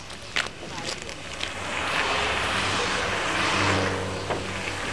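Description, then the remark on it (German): A heavy truck engine rumbles and swells in loudness over a few seconds, with a low droning hum beneath a broad rushing, wind-like noise. “Hinter den Lastwagen bleiben, dann sehen sie uns nicht.”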